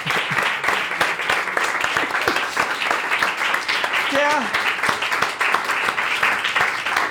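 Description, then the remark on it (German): Sustained audience applause for the guest, a dense, steady wash of many hands clapping at an even loudness throughout, with a brief whistle or cheer rising partway through. “Applaus für unseren Gast.”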